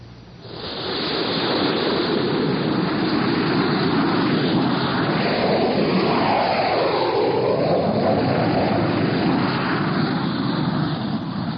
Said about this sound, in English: Six jet fighters were taking off from Hank Field